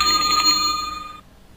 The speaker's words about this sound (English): All right, I'm going to ring the bell here. We're going to get a new one so we can call upon the chat.